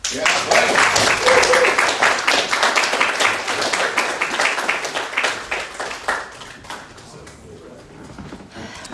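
An audience applauds a speaker after his talk with dense, steady clapping that stays loud for several seconds, then gradually thins out and fades toward the end.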